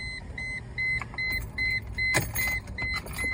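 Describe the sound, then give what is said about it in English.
A car's electronic warning chime beeps in a steady, evenly spaced rhythm over a low idling rumble while the car's windows are rolled down on a hot 95-degree day, with a brief mechanical clunk partway through and no voices. “Shut up, car.”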